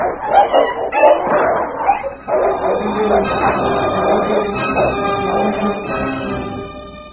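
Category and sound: animal, dog fighting wolves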